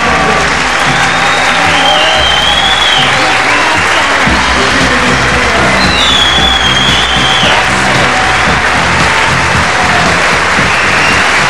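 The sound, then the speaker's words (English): Sustained, loud applause from a large crowd in a hall at the Grosvenor House Hotel in Park Lane, honouring Bob Geldof, a dense continuous roar of clapping with scattered whistles and cheers rising above it throughout. “Things like this don't happen too often in life, and when they do, they deserve applause, and they sincerely deserve to be remembered.”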